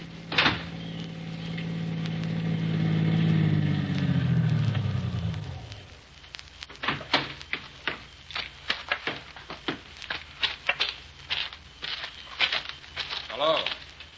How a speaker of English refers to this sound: A car down there at the foot of the hill just turned in your driveway.